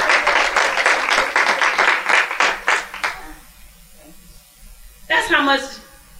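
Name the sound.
audience clapping hands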